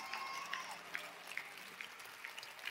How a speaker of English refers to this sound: Go ahead in Pittsburgh. Go ahead in Fort Worth. Take 15 seconds. Clap your hands, all ye people.